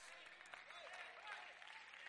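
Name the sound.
audience clapping hands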